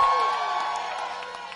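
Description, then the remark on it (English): An audience screams and cheers together in a big, sustained roar of many voices, loud, with individual shouts and whoops poking out as the noise slowly fades slightly. “Somebody scream right there. Just scream. Just scream. Scream. Scream.”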